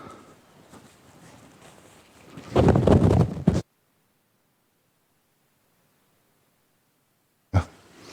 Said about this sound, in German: Ich muss einmal kurz die Nase putzen.